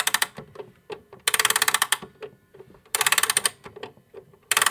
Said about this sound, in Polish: Tutaj się otwiera taki zaczep. Nakręca się ten zegar. Tu chyba, tu, nie? Tu, tak.